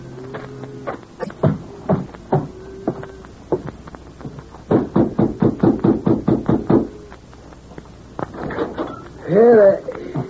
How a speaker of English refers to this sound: I'll have to knock on the door.